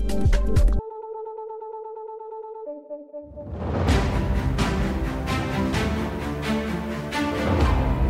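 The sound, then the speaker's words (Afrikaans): A jingle on the radio station RSC marking the start of a political discussion: a short punchy hit, then a few sustained electronic beeping tones, then a full, loud burst of music with steady percussion. No one speaks. “Nou kyk, as jy daai klingel hoor en jy luister RSC, dan weet jy sommer al, hierdie gaan nou 'n politieke gesprek raak,”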